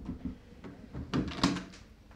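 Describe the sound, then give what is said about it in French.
Several knocks on a wooden door, moderately loud, spaced unevenly over about two seconds, with the later blows landing harder. No one speaks. “il prend son cheval et le chien tranche montagne, la pelée, et il tape”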